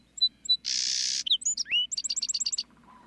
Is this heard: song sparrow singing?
yes